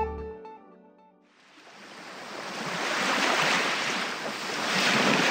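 After a few fading musical notes, the broad rushing roar of ocean waves breaking on a beach outside a beach hut swells up and continues steadily, loud, with no voices.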